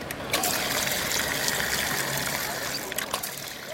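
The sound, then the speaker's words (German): Water trickles and splashes steadily from the small Font de Canaletes fountain on the Rambla de Canaletes in Barcelona, a continuous patter with brief brighter spatters, while faint indistinct voices murmur in the background. “Sie verdankt ihren Namen einem kleinen Brunnen, dem Font de Canaletes.”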